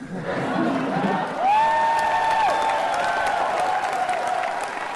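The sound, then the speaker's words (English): A conference audience applauds and cheers steadily throughout, dense clapping, with a sharp piercing whistle rising out of the crowd partway through, responding during an on-stage interview of Facebook CEO Mark Zuckerberg by journalist Sarah Lacey. “And then listen to how the audience responds.”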